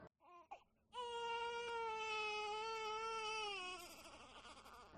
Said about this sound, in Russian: Я просыпаюсь от плача девочки. Никак не могу заставить себя хотя бы мысленно называть ее дочкой. На будильнике 3 часа ночи. Господи, она даже плачет не так, как все младенцы. Этот звук похож на крик птицы или вой ветра в трубе.